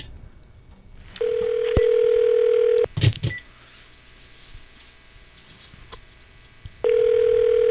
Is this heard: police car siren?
no